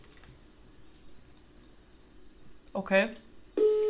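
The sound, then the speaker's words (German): A steady, loud telephone dial tone starts abruptly near the end and holds as one continuous pitch, right after a person speaks a single short word over faint background hiss. “Ah, Freizeichen, super.”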